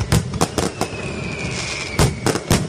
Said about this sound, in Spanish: Es festivo hoy en muchas localidades de Asturias, por ejemplo en San Juan de la Arena, en Soto del Barco, donde ayer solo se lanzaron los fuegos artificiales promovidos por el ayuntamiento.